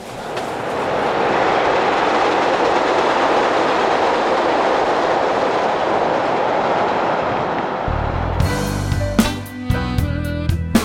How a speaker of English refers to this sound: Doors closing. Conservatory, Central Park Drive is next. This is a green line train to Harlem and Lake.